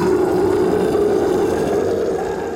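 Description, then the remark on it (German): A monstrous scream from a Lindwurm (dragon) crying out a final time after a rolling stone lands just behind its head: one long, loud, raspy cry with a steady strained pitch that holds for a couple of seconds before fading slightly at the end, with no voices. “Der Lindwurm schreit ein letztes Mal auf.”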